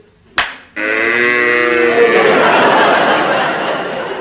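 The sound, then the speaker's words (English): After a brief rough burst, a cow lets out one long, loud, drawn-out moo that holds steady for several seconds, clear with nothing else over it. “Bill, bring those cows up.”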